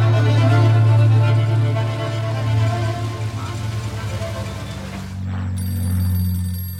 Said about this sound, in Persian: گلی تو خونه میدوه سمت تلفن. الو؟